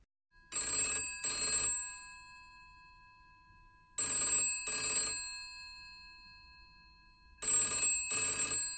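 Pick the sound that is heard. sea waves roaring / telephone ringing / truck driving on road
telephone ringing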